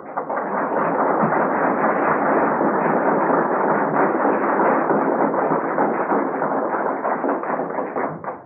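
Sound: audience applause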